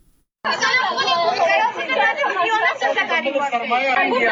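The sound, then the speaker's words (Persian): Many girls, students of medical institutes in Afghanistan, crying and wailing together behind the closed doors of their institutes after the Taliban closed them to girls and women; a dense, continuous mass of high, wavering voices that starts abruptly and stays loud throughout, with sobs and overlapping cries blending into a steady clamor. “صدای گریه و ناله شماره از دختران محصل انستیتوت های طبی در افغانستان است که امروز پشت درهای بسته این انستیتوت ها قرار گرفتند.”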